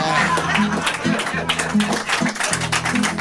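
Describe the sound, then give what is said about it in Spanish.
Audience applause, a dense, steady patter of many hands clapping for about three seconds, with voices or cheers rising and falling underneath. “Aplaudieron lo que no dije.”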